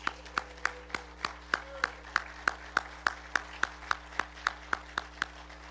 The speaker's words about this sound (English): We love you, and we thank God for all of the Calvary Children's Home fathers. Can we give a round of applause for them?